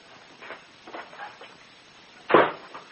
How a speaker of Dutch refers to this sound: Doe even de deur van de shack dicht, want die is opengewaaid.